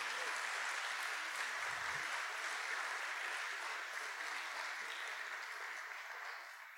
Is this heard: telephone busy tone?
no